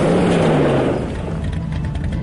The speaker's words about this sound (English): Aw, listen to the purr of that engine. I know, it's beautiful.